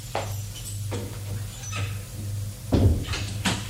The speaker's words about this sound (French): Au quatrième étage, il va ouvrir la porte de droite qui n'a pas de nom.